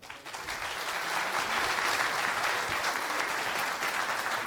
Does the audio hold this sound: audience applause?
yes